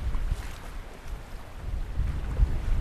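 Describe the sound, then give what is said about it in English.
Strong wind buffets the microphone in low, rumbling gusts over a steady wash of waves coming in and breaking on a lakeshore, recorded at the edge of the lake on a very windy day, with no voices. “Well, I'm standing here just at the edge of the lake, and as you can hear how windy it is, it's a beautiful sight.”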